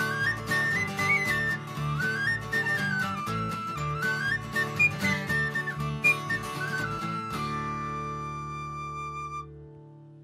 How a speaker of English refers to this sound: There's always room for a whistle. Whistle tunes and drinking tunes, right?